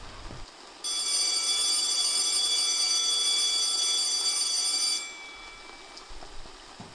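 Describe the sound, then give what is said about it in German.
A school bell rings at the end of break in one loud, steady burst lasting about four seconds, a bright metallic tone that cuts off abruptly, with quiet background noise before and after. “Auch Najib hat den Klingelton gehört.”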